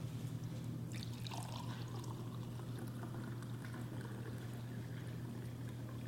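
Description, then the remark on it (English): Liquid pours steadily into a cup for several seconds, a continuous splashing trickle with a faint low hum underneath and no voices. “And after they finished eating, he took a cup and he poured it out.”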